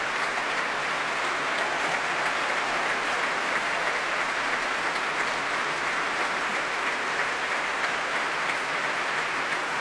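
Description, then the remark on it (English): Sustained, dense applause from a large Proms audience at the Royal Albert Hall after violinist Daniel Hope's performance, with the orchestra also clapping, steady and loud throughout with no speech, a continuous wash of clapping. “Wonderful performance, warmly appreciated here by the Prommers at the Royal Albert Hall.”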